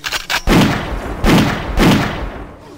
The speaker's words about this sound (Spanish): El disparo ha impactado en el pecho de Morlun, que comienza a retorcerse en el suelo, a gritar debido al profundo dolor que está sintiendo.